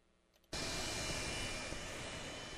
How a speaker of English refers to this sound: After his campaign plane landed, it was a group of Provo Boy Scouts who first welcomed Vice Presidential hopeful Paul Ryan as he made his first trip to Utah since joining Mitt Romney's ticket.